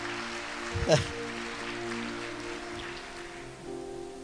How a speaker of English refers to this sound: Okay, let's give that big Christmas tree a round of applause. What do you say, huh?